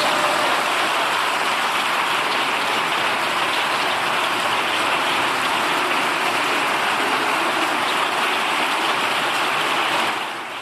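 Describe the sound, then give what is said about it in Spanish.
Dense, sustained applause from the benches of the Congreso de los Diputados after the vote result is announced, with Francina Armengol elected by absolute majority in the first round. Many hands clap in a steady loud roar that holds for about ten seconds before tapering off. No voices stand out. “aplausos de parte de la bancada en el Congreso de los Diputados después del anuncio de la socialista Narbona con esta votación en primera vuelta, porque ha sido con mayoría absoluta.”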